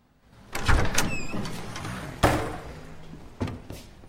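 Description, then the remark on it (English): A front door with a patterned glass window is opened, a latch clicking and a squeak as it swings, followed by a couple of sharp knocks or bumps as someone steps inside. “silhouette appears at the front door's patterned glass window. After a moment's consideration, Kirk enters with resolve”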